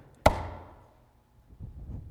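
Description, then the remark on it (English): A single sharp snap of a farmer's mousetrap slamming shut in a house at night, catching the tail of a poisonous snake, bright and loud, ringing off briefly before fading into quiet, followed by low, faint rustling. “What was it? That mousetrap.”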